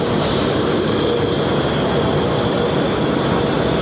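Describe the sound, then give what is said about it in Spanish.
Loud, continuous machinery roar from Laborafit, one of Moda Red's four textile recycling plants in Spain, a 5,000-square-metre factory; a dense steady wash of rumble and hiss with a faint tonal hum running through it and no voices. “Así es como suena la fábrica.”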